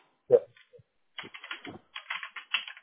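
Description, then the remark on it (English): Rapid typing on a computer keyboard as someone types in details for a listing, with bursts of crisp key clicks in quick uneven runs, separated by brief pauses, after a single louder knock at the start. “I'm just typing this in,”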